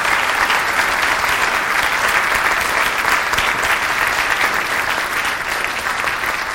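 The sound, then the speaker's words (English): A church audience claps together in sustained, steady applause before a baptism, a dense wash of many hands that stays loud and even for several seconds with no voices over it. “Yeah, let's give them a clap, why not?”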